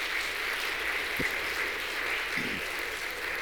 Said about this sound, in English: Men, 18 years of age or above that. And remain standing. Ladies, give them an applause.